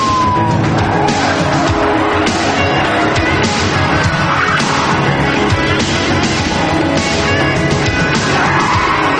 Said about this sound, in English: As several squad cars race to the scene